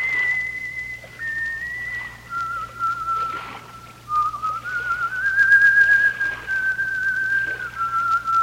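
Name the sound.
woman whistling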